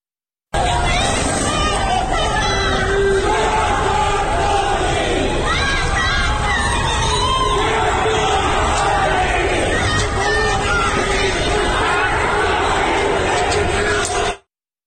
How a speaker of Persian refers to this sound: ویدئوهای منتشر شده از تظاهرات شبانه در خیابان‌های تبریز هم نشون میده که مردم با کندن تابلوهای راهنمایی و وسایل دیگه برخی خیابون‌ها رو بستند و آتش افروختن و شعار میدن. یک کمی از ویدئوی تبریز رو هم بشنویم.